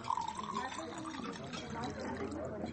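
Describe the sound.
Liquid is poured steadily into a glass as beer and water are served at a restaurant, a gurgling fill sound with a faint rising pitch, while murmured voices carry on in the background.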